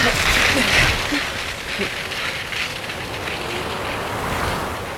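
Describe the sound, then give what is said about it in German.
A steady, loud rush of cold wind roars without pause, a dense hissing gale in a thick snowstorm on a ski slope, swelling slightly at the start and then holding a constant blustery drone. “Der kalte Wind schnitt in die Wangen. Und vor den Skibrillen tobte ein dichtes Schneegestöber.”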